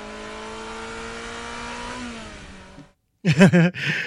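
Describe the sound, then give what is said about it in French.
A synthetic engine sound sample for an electric car, added to warn pedestrians of the car passing: a smooth, humming tone that slowly rises in pitch and fades out, followed by a pause and a couple of brief, loud, warbling tonal bursts. “Pour prévenir les piétons du passage d'une voiture électrique, il fallait rajouter des samples et pas que le bip bip bip de marche arrière.”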